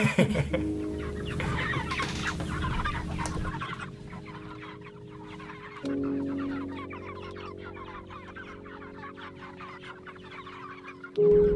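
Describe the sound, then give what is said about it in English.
A flock of meat chickens in chicken tractors clucks steadily, with dense overlapping murmurs and short calls running throughout over a constant low hum. “We moved the chickens out into the tractors, you'll remember, and everybody looked good and happy, and we were moving them along.”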